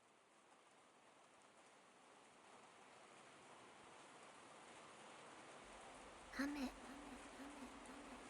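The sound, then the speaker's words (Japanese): Steady rain falls throughout, a dense, even hiss of drops that builds slightly in intensity, with a brief louder burst near the end. “雨が降る。体をきれいにする水のしずく。”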